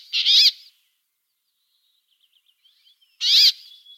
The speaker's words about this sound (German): Ja, welchen Finken haben wir hier nochmal schnell? Das war das Quäken. Des Bergfinken.